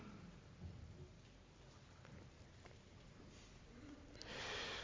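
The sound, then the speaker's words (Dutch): Steady rain hisses throughout with a low, rolling rumble of thunder underneath, and the downpour swells louder and brighter near the end. No voices are present. “Donder en bliksem en vuur.”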